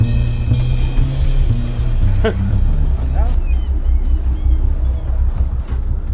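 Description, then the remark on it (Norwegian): A large motor boat's engines rumble steadily at low revs as it slowly backs away from a dock, port engine first, steered with the engines from the flybridge, with wind buffeting the microphone and a voice occasionally speaking over the drone. “Langsomt bakker den digre felaen ut fra brygga.”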